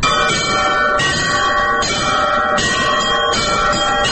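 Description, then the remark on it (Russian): Several church bells, including two smaller subsidiary (podzvonny) bells just added, ring together during a bell-ringing lesson in a steady, overlapping peal. Bright strikes come roughly every three quarters of a second over a sustained, shimmering hum. Loud, with no voices. “Теперь добавьте вот эти два подзвонных колокола.”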